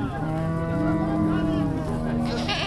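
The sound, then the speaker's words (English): Cattle moo in long, low, sustained calls, one overlapping another, over a steady background murmur of voices and market bustle, at a Friday bazaar along the Helmand River in Lashkar Gah, Helmand province, Afghanistan, where hundreds of men gather and vendors sell livestock. “Vendors sell everything from livestock to boxes of artisanal medicine.”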